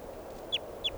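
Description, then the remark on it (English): A bird calls twice in quick succession, each call a short, high, downward-sliding chirp over a low, steady background hum. No one speaks. “This is bird 600.”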